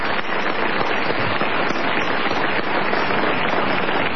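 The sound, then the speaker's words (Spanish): A dense, steady wash of crowd applause in the Radio Nacional auditorium, greeting Patricio Barton, runs without a break for about four seconds, loud and crackling with many overlapping claps and no voices on top. “Saludemos, por favor, con una cerrada ovación y una suelta de palomas a Patricio Barton.”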